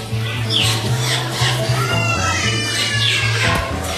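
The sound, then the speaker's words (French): A cat meows and yowls repeatedly in the courtyard of a mosque over a steady low hum, with no voices heard. “On va entrer dans la cour de la mosquée. Il y a un chat qui se sauve.”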